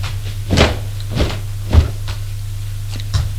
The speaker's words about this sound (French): Elle ouvre la porte de son placard.